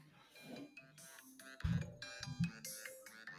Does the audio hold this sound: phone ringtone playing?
yes